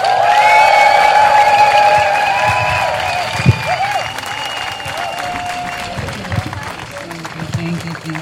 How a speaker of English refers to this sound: Please, a strong, strong, strong applause